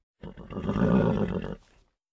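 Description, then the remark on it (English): A zebra under a tree at a zoo night safari calls once, loud, with a harsh, braying whinny that lasts about a second and a half before cutting off. No other sounds accompany it. “There were zebras under a tree.”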